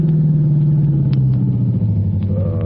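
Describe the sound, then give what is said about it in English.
A car approaches, its engine rumbling steadily in a low droning hum with no voices, holding a constant loudness throughout. “Hey, what's that coming, Hooksy? Uh-oh. Police car, I guess.”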